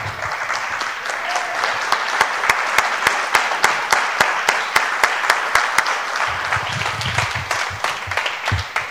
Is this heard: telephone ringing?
no